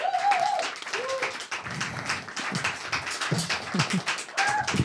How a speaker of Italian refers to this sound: e quindi io vi chiedo un grandissimo applauso